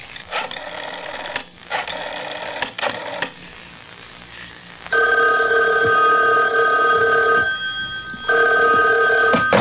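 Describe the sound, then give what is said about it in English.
A telephone rings loudly: three quick jangling bell bursts, then two longer, steadier rings separated by a short pause. No one speaks. “I made a grab for the phone.”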